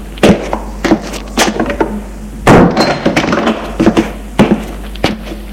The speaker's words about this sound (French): Il entre, elle ferme la porte.